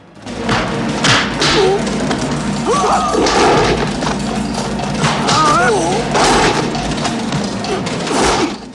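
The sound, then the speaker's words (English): Bodies repeatedly slam down onto a mat with heavy thuds at irregular intervals, mixed with strained grunts and shouts and constant background noise, as a fighter repeatedly throws a bigger man onto the mat and pins him. “Lee repeatedly throws the bigger man and then pins him.”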